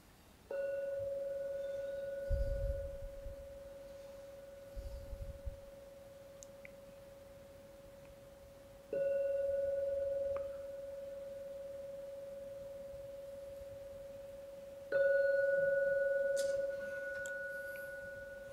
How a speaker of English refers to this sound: So we'll now ring the gong 3 times. When the 3rd ringing vanishes, it's a signal to come out from your meditation.